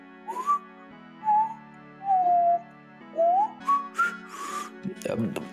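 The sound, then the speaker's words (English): A person tries to whistle quietly, producing several short, wavering tones with breathy gaps between them, with some rustling at the end. “I really cannot whistle for the life of me. Is it because I'm trying to whistle quietly?”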